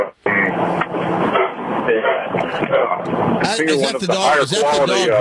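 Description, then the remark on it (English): A dog barks in the background, muffled, while people talk over it throughout; the barking sits underneath the voices rather than standing out on its own. “Is that the dog barking right now?”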